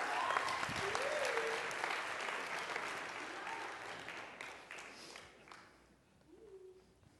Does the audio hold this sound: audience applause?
yes